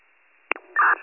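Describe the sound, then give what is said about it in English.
Radio static with no voice: a faint, thin hiss, a sharp crackling pop, then a short loud burst of harsh noise before it settles back to a low hiss. “Response, there's no audio, just static.”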